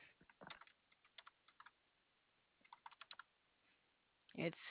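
Quick bursts of typing on a computer keyboard as an address is entered, a few clustered keystrokes then a pause and another run, fairly quiet, with a brief louder thump near the end.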